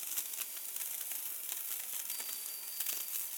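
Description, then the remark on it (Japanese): A handheld firework sizzles steadily for a few seconds as people set off fireworks together, a bright, hissing crackle with tiny rapid pops scattered through it and no voices. “それがいつの間にかフラッと現れて、今こうして一緒に花火をしてるね。”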